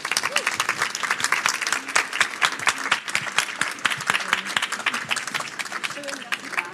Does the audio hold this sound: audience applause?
yes